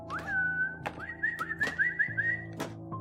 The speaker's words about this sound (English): He began whistling at me like a dog owner.